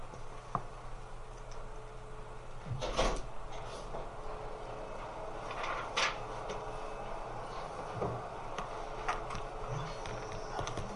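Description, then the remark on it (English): Several sharp mechanical clicks and a short rattle of a latch being worked, like a door handle tried and a lock tested, as a door is checked to see whether it is locked, over a steady low hum. “Is that locked? The door should not be locked.”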